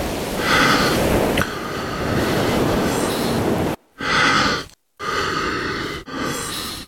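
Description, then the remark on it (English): Long, loud, rasping gasps of breath from a man pausing between words, several in a row, broken by short silent gaps, with no words spoken. “One man leaves incredibly long, gasping pauses.”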